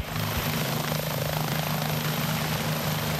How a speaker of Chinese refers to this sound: 空中传来直升机旋翼发出阵阵带有节奏的音浪，又是一趟任务的结束，费尔法克斯一号安全地返回机库。